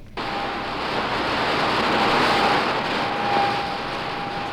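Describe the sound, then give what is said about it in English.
A radio signal recorded from the planet Jupiter, the first signal ever recorded from a planet: a thin, steady high whistle held through a dense wash of radio static that starts abruptly and stays loud for a few seconds, with no voices. “The high note is the signal from Jupiter.”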